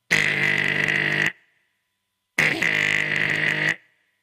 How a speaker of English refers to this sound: And he went there and he rang the doorbell.